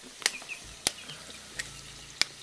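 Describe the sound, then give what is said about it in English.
A woman's knife chops through tomatoes on a board in four sharp, evenly spaced cuts as she slices six pounds of tomatoes in her home kitchen, with a faint kitchen hum underneath and no talking. “She slices 6 pounds of tomatoes.”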